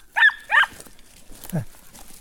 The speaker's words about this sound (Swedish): Springer först åt helt fel håll och skallar då och då.